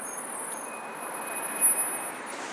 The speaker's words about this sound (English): I'm just getting this bus, hang on.